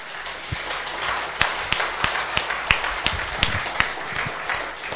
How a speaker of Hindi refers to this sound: तो इसके लिए किसके लिए ताली बजनी चाहिए? ताली हम इसलिए बजवाते हैं कि जिससे एनर्जी आती है, आपका जो दिमाग है ना थोड़ा एक्टिवेट हो जाता है।